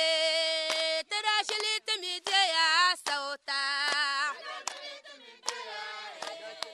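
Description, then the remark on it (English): A crowd of enthusiastic women in Wantugu, a small settlement near Tamale in Northern Region, Ghana, sings together in strong, sustained high-pitched voices, with sharp hand claps punctuating the melody at an irregular beat and brief breaks between phrases. “This singing and clapping is coming from a crowd of enthusiastic women in Wantugu, a small settlement not far from Tamale, Northern Region.”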